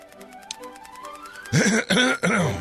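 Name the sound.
throat clearing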